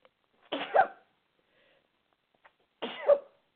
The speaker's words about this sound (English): Oh, for heaven's sake. Sorry about that. I sneezed on you guys.